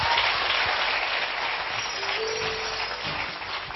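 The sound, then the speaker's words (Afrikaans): A crowd claps steadily, the dense patter of many hands filling the whole stretch at an even, moderately loud level with no voices on top. “Ons gee hom 'n hande klap, dierbaar.”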